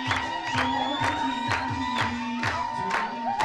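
A group of people clap together in a steady rhythm, about two claps a second, over lively music with a sustained melody line and a crowd murmuring underneath.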